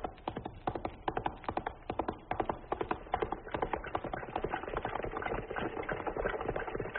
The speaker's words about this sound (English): Well, many people will not recognize the sound of wagons. You hardly hear it in America anymore.